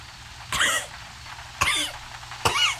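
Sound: coughing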